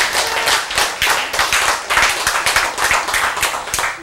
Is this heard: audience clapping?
yes